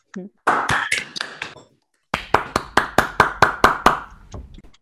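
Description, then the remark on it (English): Scattered clapping for a speaker after an online science talk comes through a thin, compressed video call connection, a few people's hands in two quick bursts with a brief pause between, moderately loud. “So let's all unmute to give her a round of applause.”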